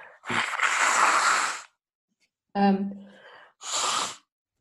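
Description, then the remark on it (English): Someone blows their nose: a long, loud, rushing blast, then a brief honking snort and a shorter second blow. “Blow my nose.”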